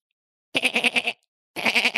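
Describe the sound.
A person imitates a goat with two loud, wavering bleats, each about half a second long with a quick trembling pulse, separated by a short pause.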